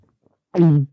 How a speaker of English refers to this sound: Throat fart. Ugh. Okay, actually, well, you ever get that? Like, you catch a little air in your esophagus, and it doesn't come out as a burp. It more comes out like a fart would.